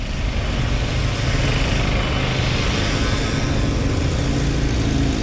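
A steady, dense roar of motorbike engines passing along a city cycle lane, loud and close, with a continuous low rumble and no clear gaps between vehicles passing.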